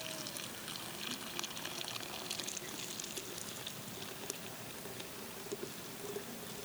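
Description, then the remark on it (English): Steady, continuous splashing and trickling of hot water being poured onto a picture, a dense hissy wash with small bright spatters, without any talking. “I hope my picture doesn't shatter with the hot water.”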